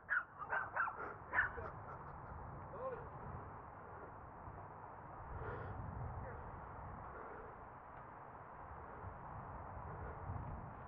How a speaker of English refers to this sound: Oh, there's a mini dog.